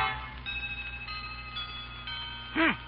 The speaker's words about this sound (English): A chiming clock is heard as Grandma consults the old-fashioned watch dangling from a chain around her neck.